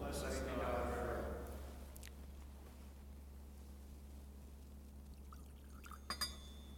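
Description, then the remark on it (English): Water and wine are poured into a glass chalice for about a second and a half, a short trickle over a steady low hum, followed near the end by two light clinks. “By the mystery of this water and wine, may we come to share in the divinity of Christ, who humbled himself to share in our humanity.”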